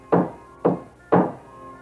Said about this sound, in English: Nailing a notice to the door of the church was not unusual, for this was the customary place to post announcements of both university and public events.